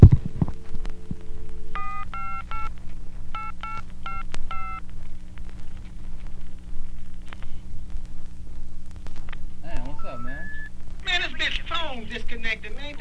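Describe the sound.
A phone number is keyed in with a quick series of touch-tone beeps, then three rising tones and a recorded voice signal a disconnected line, all over a steady low hum.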